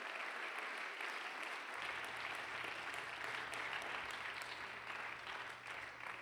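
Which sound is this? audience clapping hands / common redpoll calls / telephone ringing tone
audience clapping hands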